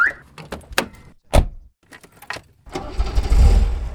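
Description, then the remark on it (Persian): A car door thuds and clicks a few times, then an engine starts and runs with a steady low rumble as the car sets off toward the Imam Reza shrine, with no one speaking. “پس انشالله یک ساعت قبل قرار آماده بودم، سوار ماشین شدم و راه افتادم به سمت حرم.”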